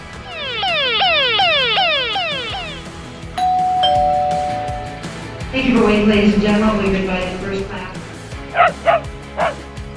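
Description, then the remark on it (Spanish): A rapid, repeating falling alarm sweep gives way to a single steady airplane cabin chime tone, then a ringing house doorbell, and finally two or three sharp barks from a small dog at the end. “Bueno, pues escuchamos un sonido de un avión cuando le hablan a uno en el fuselaje, un timbre, el sonido del timbre de una casa, una alarma y un perrito.”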